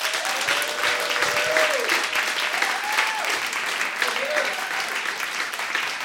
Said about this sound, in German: Und zwar jetzt, die Bühne gehört euch. Applaus.